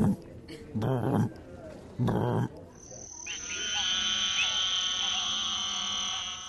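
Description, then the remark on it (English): A voice imitates an African bullfrog with two loud, deep, buzzy croaks about a second apart, followed by a steady high-pitched trilling drone that continues to the end. “African bullfrogs don't say jug of rum.”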